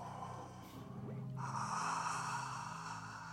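Loud, close-up audible breathing: a sharp, snort-like inhale followed by a long, rushing, breathy exhale, with no talking.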